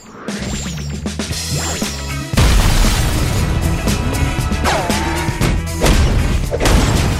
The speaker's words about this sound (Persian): شرط میبندم اون انفجار کار 50% شاد بوده.